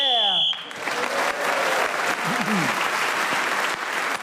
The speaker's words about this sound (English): So Paul Merton was then speaking as the whistle went, gained that extra point. He's increased his lead at the end of the round.